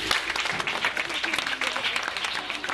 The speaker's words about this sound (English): Yes. Clap for him.